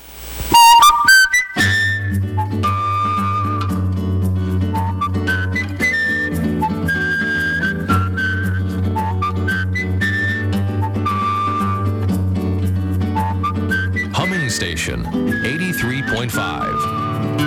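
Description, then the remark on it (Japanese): A clear whistled melody rises and falls over a steady, sustained musical backing, the thin pure tones gliding between notes, with a brief swirling flourish near the end, on a whistling radio program from Takarazuka. “宝塚発口笛ラジオ、お便りもお待ちしています。”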